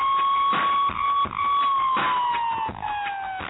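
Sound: ambulance siren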